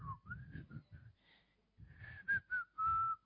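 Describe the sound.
Someone whistles a short, casual tune, a run of wavering notes with a brief breathy pause midway, then a few louder, sustained notes to finish.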